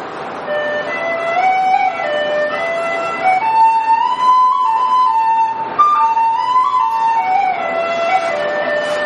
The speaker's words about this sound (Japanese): これは、ディーホイッスルって言います。ディンっていうのはブリキっていうんですね。ブリキ製の笛っていうような意味合いなんですけども、まあ、別名をペニホイッスルって言います。1ペニーで買えるとても安物の笛っていうような意味なんですけど